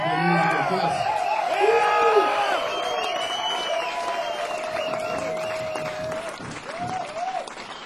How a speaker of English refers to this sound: A big round of applause for this amazing rock and roll band.